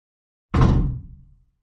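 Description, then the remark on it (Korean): A neighbor's door slams shut with a single heavy, booming thud that rings out and fades over about a second. No voices, just the one loud impact against silence. “옆집 문이 쾅 닫힌 것이다.”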